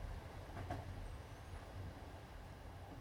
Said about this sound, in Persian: قطار آروم تو ایسکا وایساد. رسیدم.